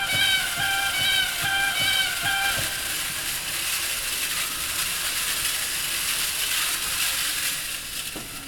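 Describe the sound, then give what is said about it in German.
The Fons Salutis register of the organ at St. Ludgerus, imitating rushing water with sound made mechanically by wind, not loudspeakers, gives a steady, airy hiss throughout, with a quick series of short, bright piping tones over it during the first few seconds. No one speaks. “Ganz besonders am Wasserrauschen und den Gänsen in der Orgel ist, alle Töne werden mechanisch mit Wind erzeugt.”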